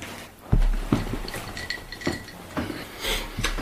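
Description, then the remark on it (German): A glass clinks and knocks a few times at uneven intervals while someone takes a drink, each contact giving a short, bright ringing tone over quiet background handling noise. “Ich muss mal gerade was trinken.”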